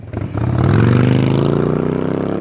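A motorbike engine revs up loudly, its throaty rumble climbing in pitch and then holding a steady, sputtering roar for a couple of seconds.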